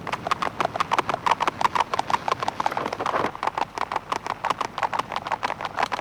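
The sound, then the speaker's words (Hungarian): Horses' hooves clip-clop in a fast, steady rhythm, fairly loud, a continuous run of sharp clicks lasting throughout with no voices over them. “Gyorsabban! Bírják a lovak! Nagyon jó lovak!”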